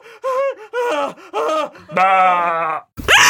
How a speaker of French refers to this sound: Il crie. Il crie. C'est pas possible! C'est pas possible! Tu ne dois pas crier! Ne crie pas! Ne crie pas!